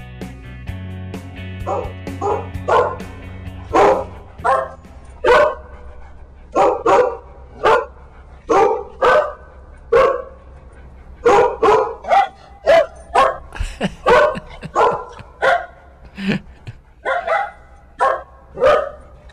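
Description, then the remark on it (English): A dog-barking sound effect on the Buckmaster radio show, AM 1030 KVOI: a dog barks loudly and repeatedly in quick, uneven bursts, with some higher yips mixed in, as a faint musical tone fades out at the start. “No, those are not the sound effects of Lacey, the three-legged dog.”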